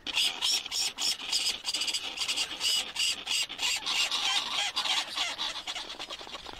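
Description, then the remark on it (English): Snow petrels call while courting, a harsh rasping chatter of rapid, repeated bursts that overlap almost without pause. The calls are loud, with no voices. “The snow petrels have arrived and are courting.”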